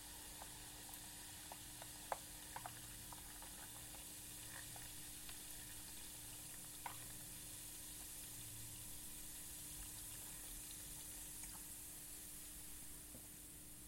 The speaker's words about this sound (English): And I'm going to add that gradually. And the reason why is because the lemon and the sugar, especially the sugar, actually makes it fizz up quite a lot. So you need to add it gradually so it doesn't all go over the top.